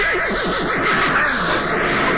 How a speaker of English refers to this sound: A neighing horse.